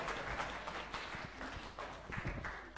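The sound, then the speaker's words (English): A crowd applauds steadily, a dense wash of many hands clapping at once with sharper individual claps popping through, sustained at an even, fairly loud level throughout. The audience is giving a group a clap on request. “Let's give them a clap.”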